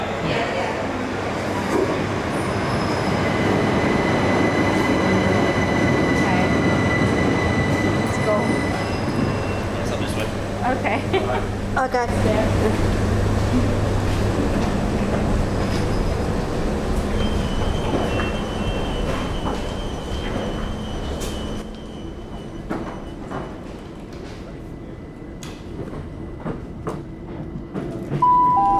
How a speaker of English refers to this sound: And now we're going to be getting on the train. We are.